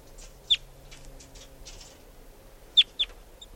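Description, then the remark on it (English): A wild bird sitting on top of a cage chitters: one sharp, high chirp, then a quick pair near the end, with faint, soft chatter in between over a low background hum. No one speaks. “And chitter by the wild bird.”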